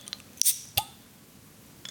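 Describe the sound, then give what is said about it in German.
A bright metallic pop and hiss as the cap is pried off a Heineken beer bottle, then a second sharp click with a short ringing tone, over quiet background noise. “Ja, wir trinken ein Heineken. Ja. Warte, ich mache auf.”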